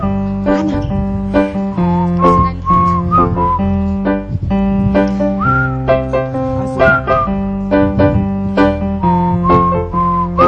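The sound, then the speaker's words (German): An audience whistles a melody together to call in the drummer, over steady, rhythmic instrumental accompaniment, the whistled tune rising and falling above the chords throughout, with no talking. “Wir pfeifen jetzt mal unseren Schlagzeuger herbei.”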